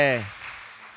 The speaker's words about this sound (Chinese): 有没有第一次来到我们当中？我们要欢迎你的。好，这个同学是不是第一次来到我们当中？可以吗？我们可以请你起立吗？好吗？拍手欢迎你，谢谢。